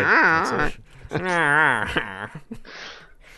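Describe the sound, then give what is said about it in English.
A dog grumbles and whines in two drawn-out, wavering vocalizations, followed by a few shorter huffs and a breathy exhale, sounding fussy and complaining. “It's just an hour and a half of just angry, I don't want to be on your lap anymore noises.”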